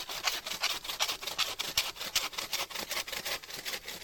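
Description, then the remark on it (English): A hand saw cuts steadily through wood, taking the branches off a tree's main trunk, about a dozen quick back-and-forth strokes in a brisk, even rhythm, fairly loud, with no one speaking. “Snedding means taking the branches off of the main trunk.”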